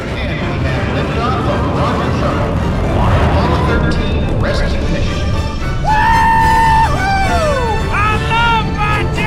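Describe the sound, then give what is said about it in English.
A loud, continuous roar of a space shuttle launch rumbles throughout, and partway Mater, on board the shuttle, lets out a long, high scream that wavers and then slides downward in pitch. “On board, Mater screams.”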